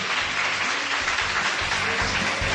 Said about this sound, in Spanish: ¿Saludáis? Un aplauso para todos los oyentes de COPE Cantabria.